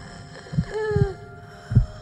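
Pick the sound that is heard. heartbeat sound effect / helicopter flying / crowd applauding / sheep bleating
heartbeat sound effect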